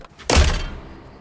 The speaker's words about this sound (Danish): Og en dør, der går op. Og så bliver den smækket.